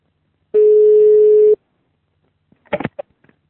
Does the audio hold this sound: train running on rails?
no